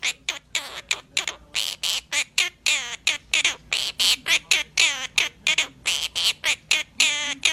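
A parrot sings a bouncy children's tune in short, rhythmic squawky syllables, repeated steadily and close up, its voice shrill and warbling with brief gaps between notes.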